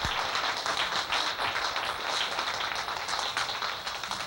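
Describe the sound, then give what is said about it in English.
A crowd at Bean Blossom applauds a band steadily for several seconds, a dense wash of many overlapping hand claps at an even, fairly loud level, with no voices over it. “What about a nice round of applause for him?”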